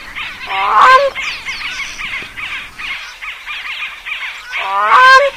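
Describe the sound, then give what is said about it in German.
Loud honking calls of a grey crowned crane, two strong bursts at the start and end with a continuous chatter of softer calls in between, without any talking. “Und dieser See ist das wichtigste Brutgebiet unseres Vogels der Woche, des grauen Kronenkranichs in Kenia.”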